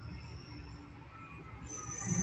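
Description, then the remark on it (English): A big recycling truck rumbles past, a steady low mechanical roar with a thin high-pitched whine running over it, swelling slightly louder toward the end. No one speaks. “There's a big truck.”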